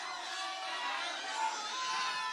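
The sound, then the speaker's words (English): An audience shouts out song requests all at once, a dense, overlapping din of many people calling out together at steady volume, with no single voice standing out. “Okay, yeah, you can yell some things out.”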